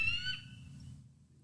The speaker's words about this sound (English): Can you see if you can Google, like, bald eagle bark?